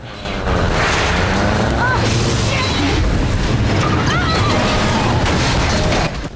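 A car engine roars loud as the car reverses and accelerates through pouring rain at locked gates, mixed with heavy booming crashes and metallic clattering as it rams into them, sustained for several seconds.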